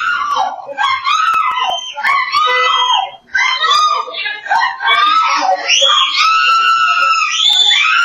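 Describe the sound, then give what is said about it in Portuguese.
A woman screams for help in loud, desperate, high-pitched wails as about five criminals attack her inside her vehicle, a near-continuous run of strained shouting with only a brief gasp for breath partway through. “Em um ato de desespero, a mulher começa a gritar pedindo socorro.”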